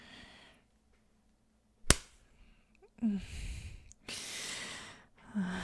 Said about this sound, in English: Ready? I'm gonna slap those tight, juicy cheeks of yours.